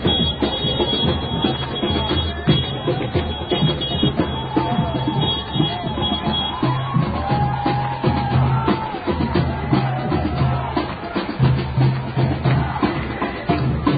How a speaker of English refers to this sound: Down at the beginning of Park Avenue, 16th Street, at the Union Square, boisterous crowd, saying they're marching to the garden. This ought to be interesting.